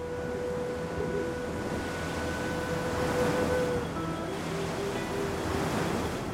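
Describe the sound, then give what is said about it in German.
Steady Atlantic Ocean surf at Las Palmas, Gran Canaria, rolls and washes without pause against the quay edges, a broad continuous roar of waves with some fresh wind, with no voices. Faint thin tones hover in the background. “Las Palmas ist eine Stadt am, oder schon eher im Meer. Im Westen, Norden und Osten ist die Hauptstadt Gran Canarias vom Atlantik umgeben.”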